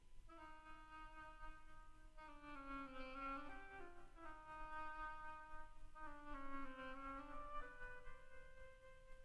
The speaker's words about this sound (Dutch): De eend door een hobo.